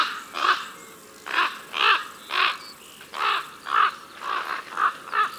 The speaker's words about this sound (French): Roc, roc, voici le grand corbeau. C'est le plus grand des corbeaux, tout noir, avec un gros bec noir. Et il mesure plus d'1,20 m d'envergure.